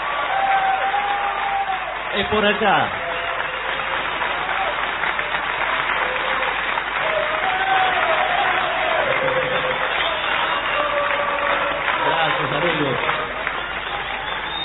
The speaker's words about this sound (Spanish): Bueno, por favor. Vamos a saludar con una ovación